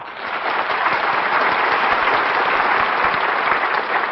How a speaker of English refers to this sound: Thank you. And since you're so generous, why not save some of that applause for Camel Cigarettes?